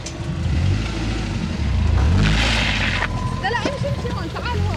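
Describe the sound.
A race car engine revs and strains as it fails after being pushed too far in a timed trial, with the engine light on, its pitch surging and sagging, with a harsh hissing burst midway and faint voices murmuring underneath near the end.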